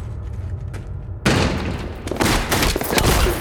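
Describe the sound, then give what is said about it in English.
Loud bursts of gunfire erupt after a low rumbling lead-in as Gibbons and Steele shoot their way down a corridor towards commandos, with dense overlapping shots and sharp cracks continuing steadily, no voices heard. “Darius steps off after the president as Gibbons and Steele shoot their way down the corridor towards the commandos.”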